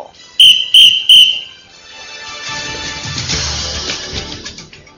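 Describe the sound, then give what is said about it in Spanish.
Three short, shrill whistle blasts in quick succession, loud, followed by a low rumbling murmur of background noise. “Un alumno se traga un silbato en clase de educación física.”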